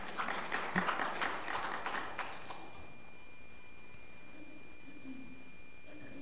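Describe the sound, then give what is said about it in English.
A brief smattering of applause from a small group: scattered, uneven hand claps for about two seconds that quickly die away, leaving a faint, low background hum. “That's worth clapping, whoever was clapping.”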